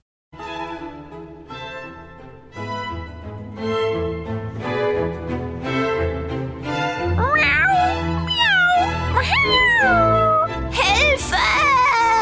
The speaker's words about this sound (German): Die drei Kätzchen schrien, so laut sie konnten.